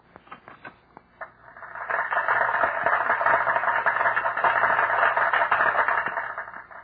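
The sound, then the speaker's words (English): A tape recording of crowd applause played on a tape machine: a few scattered claps give way after a second or two to dense, steady clapping that holds evenly, with a muffled, band-limited tone and no voices. “I have had a chance to record on this tape machine a crowd applauding.”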